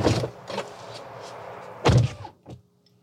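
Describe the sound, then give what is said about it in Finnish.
A car door is swung shut to test its sound, giving a solid, muffled thud, preceded by a couple of lighter clunks from the handle and latch, and followed by a soft click, without talking. “Haluan vielä kokeilla ovi. Kuuluuko semmoinen ikävä rämähdys, mikä nitirässä kuuluu?”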